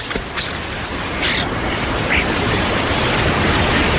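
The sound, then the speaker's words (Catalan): Outdoor ambience in Central Park, New York: a steady, dense wash of rumble from a helicopter passing, with a few scattered, faint starling chirps popping up over it. No one speaks. “Ah, sí, amb uns estornins i més avançats, sent fins i tot un helicòpter que passa per allà.”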